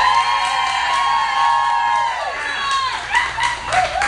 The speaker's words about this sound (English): Enthusiastic crowd here tonight, coach. It is. It sounds like that wasn't even rehearsed.